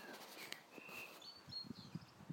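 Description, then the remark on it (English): Faint birdsong: a few thin, high whistled phrases drifting over quiet outdoor ambience, with soft thuds and rustling like footsteps. No one speaks. “I'm trying to capture birdsong, not Labradors.”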